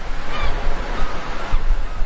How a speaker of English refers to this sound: The ocean shore.